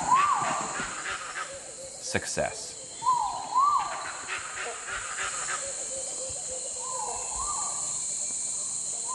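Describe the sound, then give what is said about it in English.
A gibbon's rising, whooping calls repeat a few times over a steady, high buzz of rainforest insects in Sumatra, Indonesia, with a brief spoken word near the start. “A few seconds later, however, we got to hear the gibbon call.”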